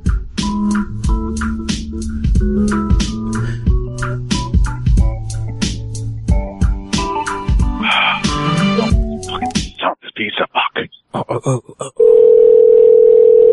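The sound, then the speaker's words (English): A Skype call dialing tone: a busy, chiming electronic melody gives way to choppy bursts, then a steady, loud mid-pitched tone holds to the end. No one speaks. “Yeah, Skype sucks.”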